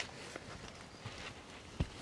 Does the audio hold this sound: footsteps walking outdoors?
yes